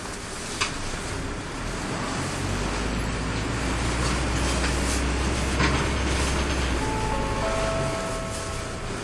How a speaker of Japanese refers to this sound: お待たせいたしました。毎度 J バスをご利用くださいましてありがとうございます。このバスは212系統保土ヶ谷駅東口行きでございます。